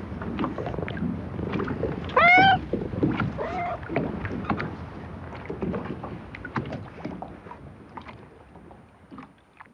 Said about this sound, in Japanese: はい、神奈川町の竹浦漁港、 猫の声がいいですね。なんか近づいてきてゴロゴロ言ってたような。 そう、すごく人懐っこい猫だったらしく